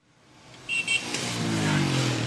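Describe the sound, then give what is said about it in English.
Dense street traffic rumbles steadily in Kabul's old city, Afghanistan, with an engine drone rising in pitch as a vehicle passes, and a couple of short high beeps, like horns or whistles, cutting through early on. “You can't tell by the din of cars and street vendors or the dirty Kabul River beyond its walls that the district at the heart of Kabul's old city has quite a romantic past.”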